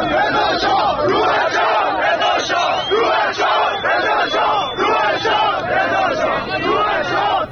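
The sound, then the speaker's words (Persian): A large crowd of protesters on a night march in Qom, Iran, chants slogans in unison, including "We don't want an Islamic Republic", loud and sustained for the whole stretch, the massed voices rising and falling in a steady rhythmic cadence. “همچنین تصاویر راهپیمایی امشب از تظاهرکنندگان در قم انتشار یافته که جمعیت شعار میدهند، نقل قول میکنم، جمهوری اسلامی نمیخوایم، نمیخوایم.”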